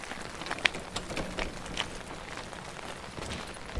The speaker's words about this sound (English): At least the rain's good for something. They may not hear us.